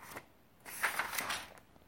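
Quiet rustling of paper pages being turned in a 50-leaf paper notebook nearly filled with handwritten notes: a brief crisp flick, then a longer papery sweep and crinkle through the middle, fading out. No voices.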